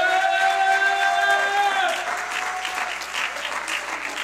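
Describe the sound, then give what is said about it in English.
An audience in a church claps their hands in a steady, dense wash of applause, with a sustained keyboard chord ringing over it for the first couple of seconds before the clapping carries on alone. “Come on, you want to clap your hands, son of God.”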